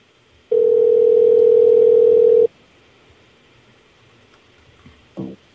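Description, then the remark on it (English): A loud, steady electronic chat notification beep holds one low-mid pitch for about two seconds, then stops; a few seconds later comes a brief, softer blip. No one speaks. “Somebody needs to mute their thing because I hear the beeping of the chat.”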